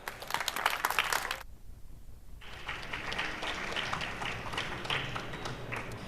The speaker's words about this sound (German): Also einen schönen Applaus für Operation Mindfuck Volume 2